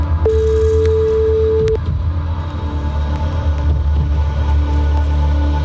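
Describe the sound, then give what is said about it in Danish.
A single steady ringback tone from an outgoing phone call by the ANR hosts to a listener who texted in to a competition for two tickets to the show Far til To sounds for about a second and a half, then stops, leaving a low hum and faint line noise with no one speaking. “så ringer vi faktisk, det er sådan lidt atypisk, men vi ringer til en, som har sendt os en sms nu.”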